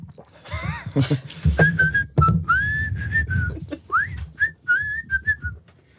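A person whistles a short melody close by, with clear sustained notes and quick gliding pitch slides in an irregular phrased rhythm, over faint background noise.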